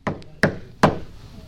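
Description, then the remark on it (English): Three sharp, loud knocks on a wooden surface, evenly spaced about half a second apart, each ringing briefly, with no voices. “But some of them, you have to knock louder.”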